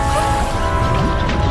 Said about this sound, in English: … bathes herself in a bathtub filled with bubbles. The bubbles between … legs rumble and rise.